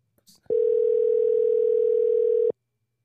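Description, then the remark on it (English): A telephone out-of-service tone: one loud, steady electronic tone held for about two seconds, starting and stopping abruptly, with no voices over it. “Oh, they're not even in service.”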